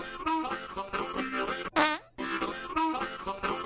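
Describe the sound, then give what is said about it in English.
A short comedic musical jingle plays, with a loud, brassy fart sound effect bursting out in the middle before the tune resumes. No one speaks. “I almost wonder if we should play that theme.”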